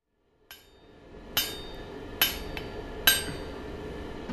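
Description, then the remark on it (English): Four sharp metallic hammer strikes ring out at a steady, unhurried pace, fairly loud, each leaving a brief bright ring over a low background rumble; someone is hammering a piece of metal to round off its corners, having just changed hammers. “Changing hammer again.”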